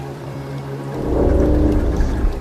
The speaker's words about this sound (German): Und da sind wir wieder klanglich eingetaucht in den Regenwald Amazoniens.